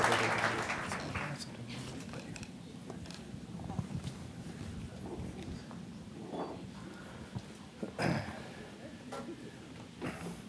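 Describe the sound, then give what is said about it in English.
An audience applauds steadily for about ten seconds for the award-winning author, journalist and activist Michael Pollan, a dense, even wash of clapping with a few louder bursts in the middle and at the end, and some scattered voices mixed in. “That applause was surely for Michael”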